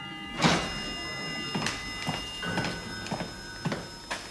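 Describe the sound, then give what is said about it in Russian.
The front door of a house being opened: a sharp latch clack followed by a series of soft clunks and rattles spread over a few seconds, with a faint steady hum underneath and no voices. “Звук открываемой входной двери.”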